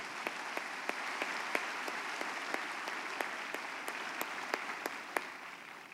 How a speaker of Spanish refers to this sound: Un aplauso al Señor porque ese es nuestro campo.